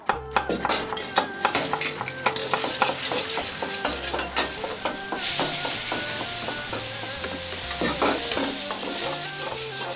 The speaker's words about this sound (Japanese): 厨房では本場の料理人さんたちが一心不乱に大鍋を振るっている。その姿はまるで料理たちのサーカス、一中華鍋。